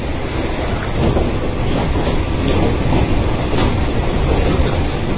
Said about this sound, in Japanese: 今朝もいつも通り前から3両目の扉から満員の電車に自分の体を押し込む。